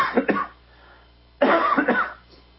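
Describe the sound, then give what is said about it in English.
A person coughs in two close bursts, pauses for about a second, then coughs again in another harsh double burst, fairly loud with no talking. “Excuse me, I've got a bit of a cough.”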